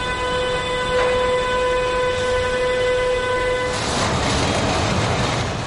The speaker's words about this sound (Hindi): इस वक्त मालबरदार रेलगाड़ियों के रास्ते जर्मनी को हर हफ्ते 5 बार चीन से जोड़ते हैं और BMW कारों के पार्ट्स से लेकर HP कंप्यूटर्स तक हर चीज वहां पहुंचाते हैं।